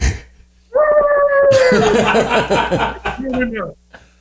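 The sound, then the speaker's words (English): A person imitates a wolf cry: a loud, sustained howl that dips slightly in pitch, then breaks into a rough, gravelly, growling wail lasting about three seconds before cutting off. “I had a friend that we were jamming, and he's like, hey, man, I want to hear your greatest, you know, wolf cry.”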